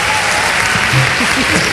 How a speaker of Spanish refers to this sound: Un aplauso para ellas, por favor.